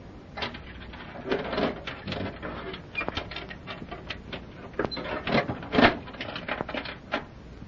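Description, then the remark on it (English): A door in a big jail is locked behind people passing through so the next door can be opened: a run of sharp metallic clicks and clanks in irregular bursts, with a louder rattle near the end and no voices. “Why do you lock that door behind us?”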